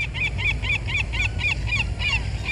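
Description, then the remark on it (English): A very large herring gull swooping down on a street gives a rapid series of loud, nasal calls, about ten evenly spaced yelps in quick rhythm, over a low background rumble. “And I turned around, and in an instant, right in front of me, a very, very large herring gull swooped down.”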